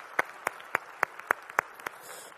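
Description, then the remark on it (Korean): An audience claps in steady unison, about eight sharp, evenly spaced claps in quick succession, fairly soft, with no talking, giving a clap of glory to the Lord after the choir's praise. “우리 찬양받을 주님께 영광의 박수를 올려드리겠습니다.”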